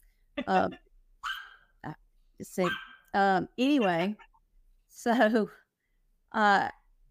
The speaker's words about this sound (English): sorry, I have a new puppy and she's really loud and she's mad because I'm locking her out of the room.